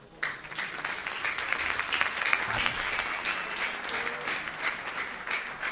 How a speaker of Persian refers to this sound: ممنون از شما. خیلی عالی، خودتون رو تشویق کنین.